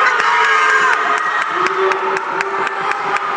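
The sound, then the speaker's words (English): A mother yells loudly and continuously over a noisy, cheering crowd at a youth wrestling match, with sharp claps or thumps cutting through at a steady quick rhythm. “Mama's yelling, hope, and he's got a pin!”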